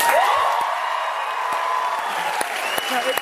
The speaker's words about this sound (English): I haven't gotten all dressed up and had hundreds of people clap for me in days.